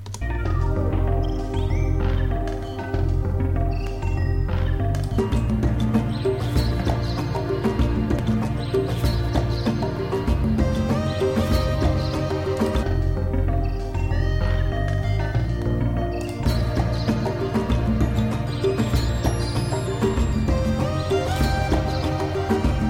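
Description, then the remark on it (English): Original video game soundtrack music plays steadily and loud throughout, a dense instrumental arrangement with sustained melodic tones over a steady rhythmic beat, with no voices. “So let's check this against the original.”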